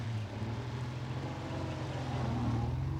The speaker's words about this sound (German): Der Mann, der da wegfährt, ist sehr klug.